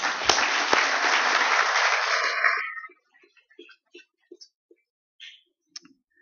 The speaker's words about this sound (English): Well done to you. If you've been clapping at other things, give yourselves a good clap now. God bless you.